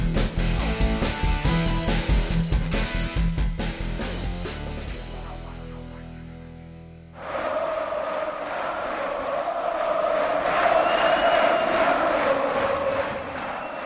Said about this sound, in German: So und ähnlich feuerten die tschechischen Eishockey-Fans ihre Mannschaft in den Gruppenspielen und im Viertelfinale gegen Deutschland an.